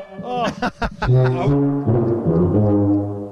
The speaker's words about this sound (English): I was the one with the air horn. I heard that in the hallway, and I woke up. We didn't know if you could hear it through the door, but. I did. What time did you wake up? Just now? I woke up when the tuba and the air horn were playing.